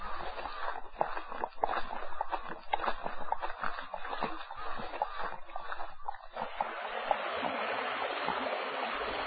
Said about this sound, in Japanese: 右手に木曽川が寄り添う山間へと差し掛かっている。この辺り川中に大岩があるから、生徒もさらさらと小石を越える水音ではなく、岩にぶつかるゴーゴーの力強き生徒が谷を渡る。